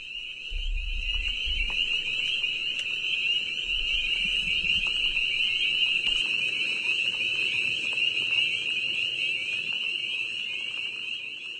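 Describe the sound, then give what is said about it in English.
A dense chorus of chorus frogs trills without pause, a shrill high-pitched buzz holding steady for the whole stretch, with a few low rumbling thumps underneath near the start. “Occasionally, you hear the trilling of a chorus frog.”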